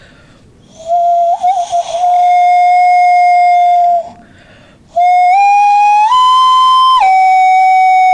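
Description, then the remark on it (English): A person voices an imitation of a tribal bird call: two long, loud, steady hooting notes, the second stepping higher in pitch partway through before dropping back. “Do you want to hear my bird call?”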